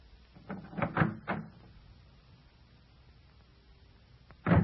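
A door is opened after a call for Michal to open it: a few quick wooden thumps, a pause of near silence, then a louder clunk of the door moving. No one speaks.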